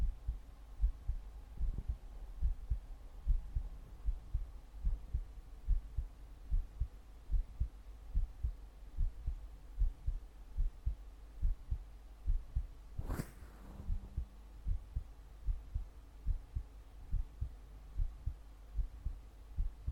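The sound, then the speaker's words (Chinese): A young man's steady, rhythmic heartbeat thumps low, as if through a stethoscope, during a routine check-up, over a faint hum, with one brief rustling scrape partway through and no talking. “不要玩手机了，听听心脏。日常检查而已啊，听听心跳啊。”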